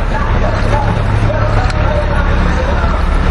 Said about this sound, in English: Okay, here's another truck. They seem to be evenly, spaced differently, in different, spread out all over today.